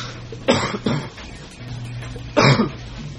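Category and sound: human body sound, coughing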